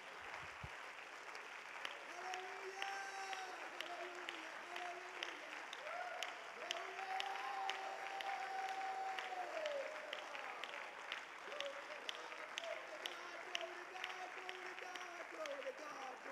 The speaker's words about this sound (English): One more time with victory, will you clap your hands to the Lord?